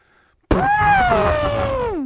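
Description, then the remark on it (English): A person imitates an elephant's trumpet: one loud, brassy, sustained cry that starts abruptly, holds a high strained pitch, then slides downward as it fades out, with no talking. “let me hear your elephant sound.”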